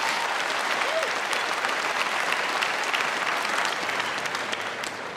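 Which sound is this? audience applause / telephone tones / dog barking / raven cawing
audience applause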